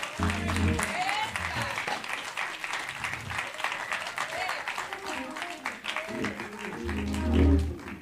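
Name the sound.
audience hand clapping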